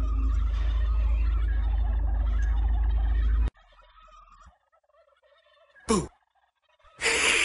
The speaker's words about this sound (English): Well, one of my turkeys got loose. Have you guys, by any chance, seen a turkey up there?